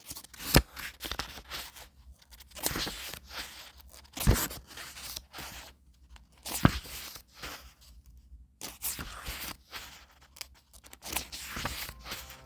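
Book pages are turned one after another, each flip a crisp papery rustle with a sharp snap, spaced irregularly with soft shuffling between them and no voices.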